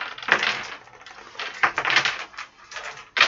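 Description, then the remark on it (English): Dice clatter and rattle against a tabletop in several short bursts of clicking, fairly loud, with brief pauses between as they are swept back together into the middle of the table during a game. “Put all the dice back in the middle of the table.”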